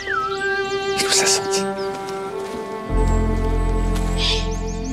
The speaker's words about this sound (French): Les arbres aussi écoutent le chant des oiseaux, tu vois.